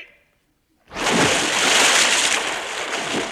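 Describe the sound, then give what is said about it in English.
After a moment of near silence, something plunges into water with a sudden loud splash, followed by a few seconds of heavy churning and sloshing. “Missed. Worse still, if little Jim had been here, he could have said... It's fallen in the water.”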